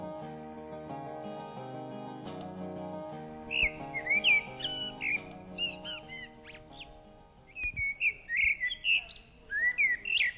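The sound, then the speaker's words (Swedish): A blackbird perched in the top of a pine tree sings close by in loud, fluty whistled phrases with short pauses between them, near 10:30 on Midsummer in Åhus, entering a few seconds in as a soft sustained musical tone fades underneath. “Klockan är närmare 10:30 och jag sitter och njuter av koltrasten som sitter i talltoppen alldeles bredvid mig.”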